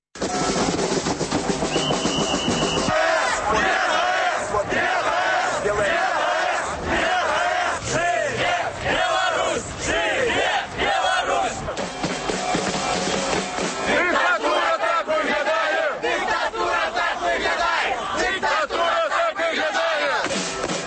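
A large crowd chants and shouts together at the Chernobyl Way protest rally in Belarus, voices rising and falling in loud rhythmic bursts that continue steadily throughout.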